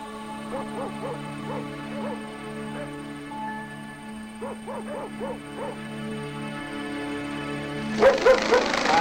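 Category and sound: animal, dogs barking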